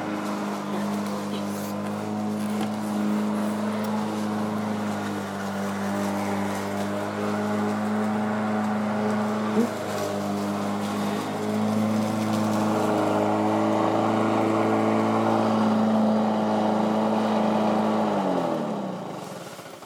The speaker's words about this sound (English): This is a lawnmower, buddy. Closer.